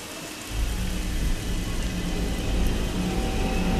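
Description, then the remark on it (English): Heavy rain pours down outside a house over a mudflat in a dense, steady hiss with a low rumble underneath, swelling in just after the start and continuing without pause. No one speaks. “It's raining hard outside, and Arthur looks out to the large cross sticking up out of the mudflat.”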